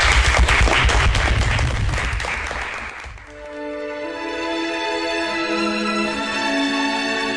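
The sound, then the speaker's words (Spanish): A burst of dense, loud applause from a group fills the first few seconds, then fades out as sustained tonal music takes over. “Felicidades y un aplauso.”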